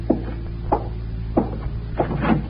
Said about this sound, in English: Door.